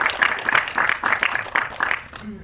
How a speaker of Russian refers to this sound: Давайте аплодисментами отметим наш открытие.